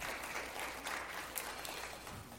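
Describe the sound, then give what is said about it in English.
An audience at a worship service claps steadily as a hand clap offering to praise the Lord, a dense, continuous wash of many hands applauding together at moderate volume throughout, with no voices standing out. “Let's praise the Lord. Let's give him a hand clap offering.”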